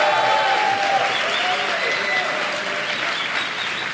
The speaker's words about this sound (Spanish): un aplauso para ella.